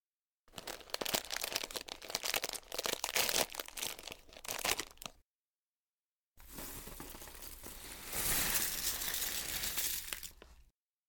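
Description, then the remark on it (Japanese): A crinkly package of premium dog food rustles in sharp bursts, then after a short pause the dry kibble pours out in a steady, clattering rattle onto a plate for a dog. No one speaks. “まあ、とりあえずお皿に出してあげるから、食べてみてよ。”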